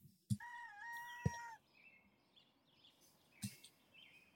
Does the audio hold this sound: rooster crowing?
yes